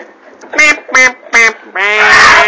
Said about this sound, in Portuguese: Cala a boca, papagaio. Ele é novo no programa, assim.